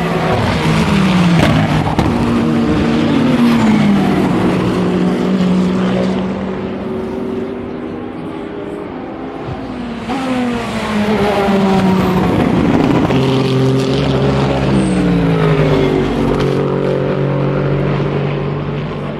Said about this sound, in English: I'm just going to leave you with a couple of minutes of the sound of the cars at Tête Rouge at Le Mans 2024.